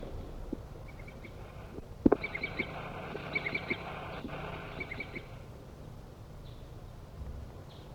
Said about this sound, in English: Wild bird.